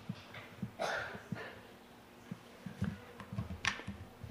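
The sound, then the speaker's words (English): Pencils drop one after another into a holder, making a few light, hollow clicks and clatters spaced irregularly, quiet against a faint low hum, with no talking. “And we could add other pencils.”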